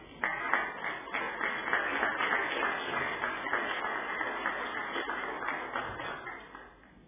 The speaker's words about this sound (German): Und ich glaube, wir haben uns auch einen Applaus verdient.